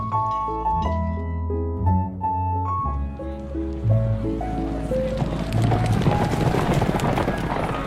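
A horse-drawn carriage pulls away as the coachman is told to drive off, hooves clopping and wheels rumbling, growing louder and busier after a few seconds over a musical backdrop.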